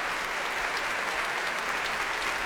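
An audience at the Royal Albert Hall during a Proms concert applauds E-flat clarinettist John Cooper, a steady, dense wash of clapping that holds an even level throughout, with no voices standing out.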